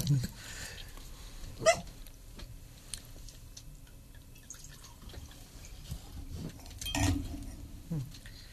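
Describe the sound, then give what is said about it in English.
White Côtes du Rhône wine pours into a glass in short liquid bursts with a soft gurgle and drip, amid quiet background murmur and a few small clicks. “The pouring also sounds good.”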